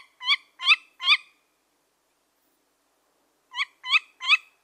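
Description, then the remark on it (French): A tawny owl calls in two bursts of three short, sharp cries, with a pause of a couple of seconds between the groups, clear with no other sound around. “Mais la chouette hulotte a un autre super pouvoir, elle est capable de fermer ses oreilles quand elle dort.”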